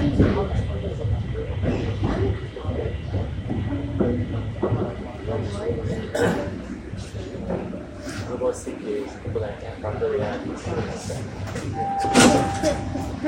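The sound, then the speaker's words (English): Subway train doors slide open on the left at Lawrence Station amid a steady low rumble of the train and murmuring voices, with a short bright burst and tone near the end. “arriving at Lawrence Station. Doors will open on the left.”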